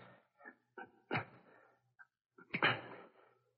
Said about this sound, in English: Police dogs. I've got to quiet them quickly.